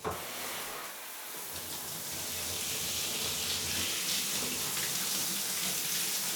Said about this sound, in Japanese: じゃあシャワーかけるね。